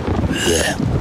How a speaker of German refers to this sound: Regen.